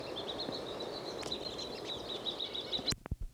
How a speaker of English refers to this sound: Just flew. That last call was on flight. That chickadee made no call on landing yet. It flew about 5 meters.